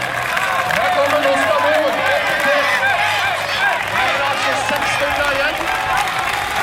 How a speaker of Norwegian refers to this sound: Slik høres det ut når publikum står nesten inne på banen.